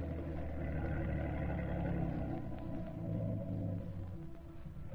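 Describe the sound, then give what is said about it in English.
A motorboat coming toward a boathouse in thick fog: its engine drones steadily with a deep, throbbing low rumble and layered humming tones, holding at a fairly constant moderate level throughout, with no voices. “There's a motorboat coming toward the boathouse now.”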